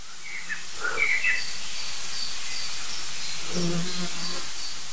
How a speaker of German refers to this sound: Die Amsel war aber super nervös. Es kamen noch andere Vögel hinzu.